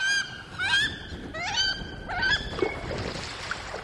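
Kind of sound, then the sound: bird, wood duck calls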